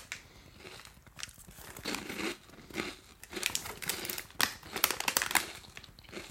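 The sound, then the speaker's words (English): Crunchy chewing of a dry snack for about 60 seconds, a steady run of crisp crackling bites with sharp bursts growing louder toward the end, no talking. “I'm crunching.”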